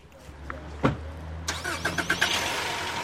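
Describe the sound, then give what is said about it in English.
An unmarked police car's engine cranks and catches after a low rumble and a sharp thump, then settles into a steady idle with a rising mechanical whine and a few short chirps. “The trio piles into an unmarked police car.”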